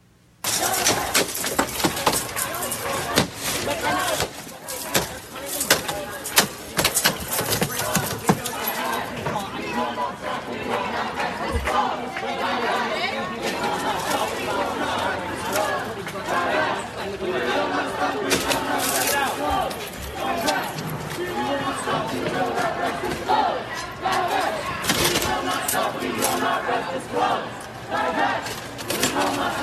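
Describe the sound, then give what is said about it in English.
A rowdy crowd of protesters shouts and chatters continuously while smashing into Hamilton Hall at Columbia University. Sharp, irregular smashing and shattering blows cut through, like glass and doors being broken in. “Yep, smashing into Hamilton Hall at Columbia, just an omen of what's about to happen.”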